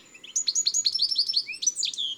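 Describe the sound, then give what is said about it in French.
A European goldfinch sings a rapid, bright twittering song of tinkling notes and short buzzy trills, clear, running continuously for a couple of seconds with no other sounds. “Ça, c'est un joli chardonneret. Avec son chant typique.”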